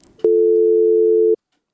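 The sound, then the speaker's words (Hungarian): A steady, loud electronic phone-line tone sounds once for about a second as a caller's line to Mária Rádió drops, starting and stopping abruptly, with brief faint noise before it and silence after. “Valamiért megszakadtunk, de akkor a következő telefonáló.”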